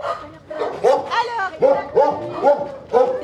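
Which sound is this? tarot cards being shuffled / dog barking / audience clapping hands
dog barking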